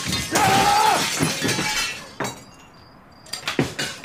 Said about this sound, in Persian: خودش شیشه های اتاقش رو میشکنه.